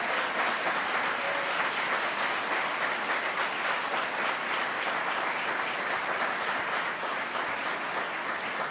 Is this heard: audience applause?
yes